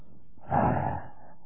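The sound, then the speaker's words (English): A voice imitates heavy breathing, the sound of a continuous breathing likened to the rushing of a mighty wind, with one loud, breathy exhale lasting about half a second, surrounded by quiet. “Well, as a matter of fact, in the original, the idea is the sound as of a continuous heart breathing.”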